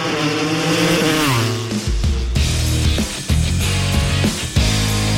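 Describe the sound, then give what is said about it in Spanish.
Loud racing motorcycle engines scream, their pitch climbing and dropping through rapid gear shifts as the bikes rev hard, with no talking. “Las motos.”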